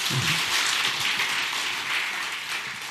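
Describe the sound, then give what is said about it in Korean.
An audience claps together in a dense, steady patter of many hands. The sound stays fairly even for the whole stretch, with a low voice murmuring briefly at the start. “아유, 박수 한번 칩시다.”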